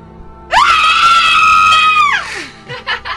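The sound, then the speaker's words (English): A woman lets out a single loud, piercing scream during a screaming contest on the Joe and Alex morning show, held steady for over a second before sliding down and fading, followed by a few brief murmurs of voices. “Thank you guys for screaming along this morning on the Joe and Alex show.”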